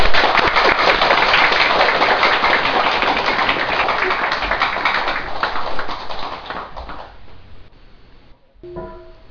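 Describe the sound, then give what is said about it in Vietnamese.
An audience at a Buddhist dharma talk on 18 July 2009 applauds steadily with dense, crackling clapping that holds strong for several seconds, then gradually thins and fades away, ending with a brief voice as it quiets. “Xin quý vị vỗ tay một tràng pháo tay.”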